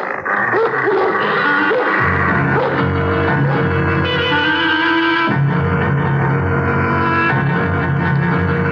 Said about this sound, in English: What are they? House pets, I guess. Hey, those are Doberman Pinschers.